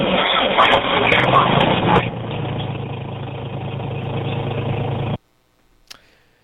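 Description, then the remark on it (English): A 1968 tractor engine cranks with a harsh, grinding starter screech for a couple of seconds, then catches and settles into a steady, rumbling idle that cuts off abruptly, followed by a faint click. “It starts up pretty quickly, so I don't think the starter itself is going out or the solenoid.”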